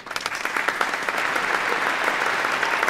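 Steady audience applause welcomes a young man onto the stage, a dense, even patter of many hands clapping at a constant loud level, with no voices standing out above it.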